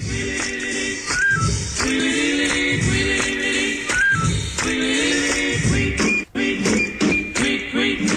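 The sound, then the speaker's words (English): A short, loud burst of upbeat jingle music signalling a segment of the latest food tweets from the city, with bright layered melody and steady rhythmic pulses, briefly dropping out near the end before resuming, with no voices. “That music, of course, signals time for the latest food tweets from the city”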